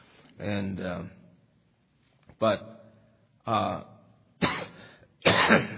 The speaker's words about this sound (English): Excuse me. As you can tell, I have a bad, bad cough.